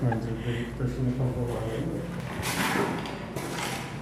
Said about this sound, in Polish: No to otwieramy główną bramę. Ciężkie drzwi, trzeba trzymać, tak, ciężkie drzwi bardzo. Żeby komuś nogi nie przytrzasnęły. Trzeba uważać, dokładnie.